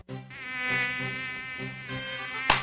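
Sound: mosquito buzzing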